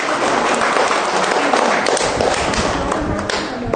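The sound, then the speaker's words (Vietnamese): A crowd bursts into steady, loud applause for a 13-year-old child's answer, many hands clapping densely together for a few seconds, tapering off slightly near the end. “Wow, một tràng pháo tay thưa anh chị em. To lên!”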